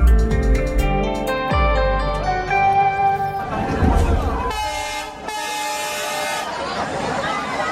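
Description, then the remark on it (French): A train horn blares in long, loud, sustained tones with shifting pitches, over the rumble and clatter of a crowded passenger train in Bangladesh, with crowd noise and voices mixed in. “C'est celui des trains bondés qu'on entend ici.”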